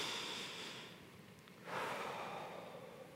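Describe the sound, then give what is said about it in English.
A slow, deep breath: a long airy inhale for about a second and a half, then a fuller, louder exhale that rushes out and gradually trails off, with no talking. “Have you taken a deep breath today? Let's do that right now.”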